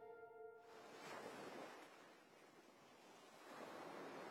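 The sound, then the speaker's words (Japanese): Ocean waves wash onto the shore in broad, hissing surges that swell and recede, rising again near the end; a brief tonal chime sounds at the very start, with no voices. “くー、気持ちいい。海最高。”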